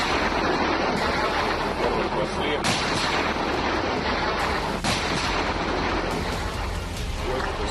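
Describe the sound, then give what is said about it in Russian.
Artillery guns fire a salvo at identified enemy positions on the Avdiivka direction, then reload: two heavy, sharp booms a couple of seconds apart cut through a constant loud roar of blast noise and rumble, powerful. “Происходит перезарядка. И новый залп.”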